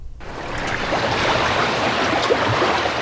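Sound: ocean waves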